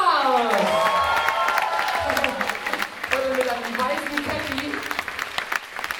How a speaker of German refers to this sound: Dann haben wir hier von mir aus gesehen auf der rechten Seite einen kräftigen Applaus